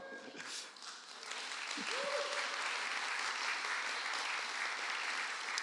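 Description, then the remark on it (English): A church audience bursts into steady applause for a visiting team from North River Church in Tampa, Florida, many hands clapping in a dense, sustained roar that swells after a brief pause, with a few voices calling out near the start. “I'm not leaving any time for applause and everything like that.”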